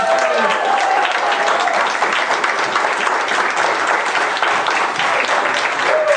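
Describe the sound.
An audience applauds steadily, a dense, loud wash of clapping that holds for several seconds, with a few faint tonal cheers or voices rising briefly above it.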